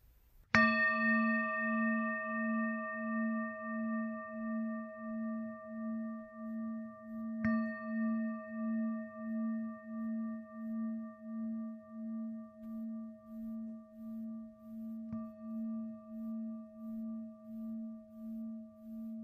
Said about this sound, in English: could you ring the bell for us? That would be great.